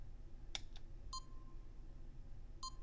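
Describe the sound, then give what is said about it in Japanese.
A couple of sharp clicks, then two electronic beep tones of a detention facility's in-building beep signal, each a short clear pitched tone with a fading tail, spaced a second or so apart over a low background hum. No one speaks. “先に、今後も毎日聞くことになる館内のビープ音を流しましょう。”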